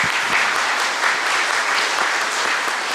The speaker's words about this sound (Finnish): Annetaan heille pienet aplodit tähän alkuun.